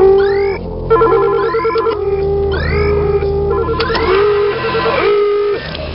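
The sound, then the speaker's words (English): A telephone rings insistently, its loud warbling tones repeating in quick, regular bursts for several seconds with no one speaking. “Mayor, it's the phone.”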